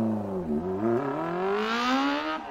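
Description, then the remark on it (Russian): A race car engine revs up, its whining pitch climbing steadily over a couple of seconds, loud with a steady roar and no voices. “Пусть котят возят в школу не на автобусах, а на гоночных автомобилях.”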